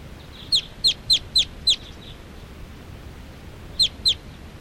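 Wild birds, apparently all females, perching in a big tall tree, call in a quick run of five sharp, high chirps, then fall silent before two more chirps follow, with no voices and only a soft background hiss.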